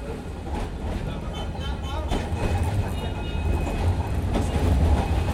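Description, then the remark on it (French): A tram rattles along its rails in Algiers, heading down toward the city centre: a steady heavy rumble with metallic clatter and a faint high whine, growing slightly louder throughout. “Entre deux magnifiques descriptions de Bellecour, le quartier d'Alger qu'il habitait, on descend vers le centre de la capitale algérienne, au gré brinque-ballant des tramways.”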